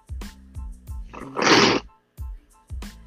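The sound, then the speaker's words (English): Congested nasal sniffles from a person with a slight cold: a run of short, throaty snorts with one longer, breathy sniff in the middle, all heard alone without any talking. “Y'all pardon my sniffling.”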